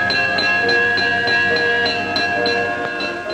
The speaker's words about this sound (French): C'est l'heure du réveil. Paul Barbé, le jeune et actif directeur, tire la cloche.